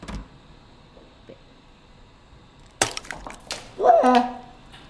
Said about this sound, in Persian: طرز پخت نیمرو. ابتدا قابلمه را روی آتیش بگذارید. بعد تخم مرغ را بشکنید.